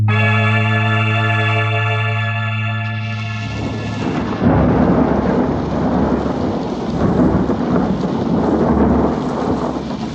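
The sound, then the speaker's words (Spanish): A sustained tonal hum gives way to loud, rolling thunder with lightning over the empty streets of an Arab quarter, rumbling on for several seconds over a steady wash of heavy rain, full, with no voices. “Los relámpagos iluminan las solitarias calles del barrio árabe.”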